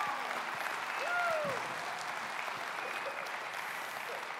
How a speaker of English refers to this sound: You know, if somebody was winning a basketball game, that would be a nice applause. But the Bible says there's more joy in heaven just over one person, one lost person coming back to Jesus.